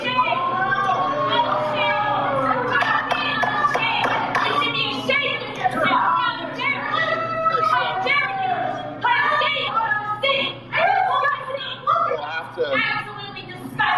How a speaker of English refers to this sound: Oklahoma City Council members have voted 5-3 to renew the city's contract with Flock Safety, despite strong opposition from residents and privacy advocates. The vote drew boos from the crowd.